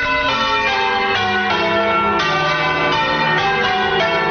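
church bells tolling

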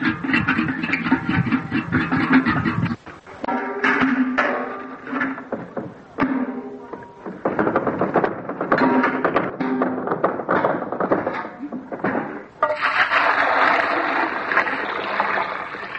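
drawing water

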